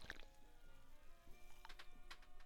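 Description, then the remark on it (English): A can of unsweetened lime-flavoured sparkling water pops open with a sharp crack, followed by a few bursts of fizzy hissing and crackling bubbles, fairly quiet, with no one talking. “Opening up a can of unsweetened sparkling water with a hint of lime.”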